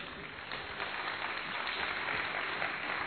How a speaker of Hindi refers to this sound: आप लोग अभी भी सुधरे नहीं हो, गलत बात पे ताली बजाते हो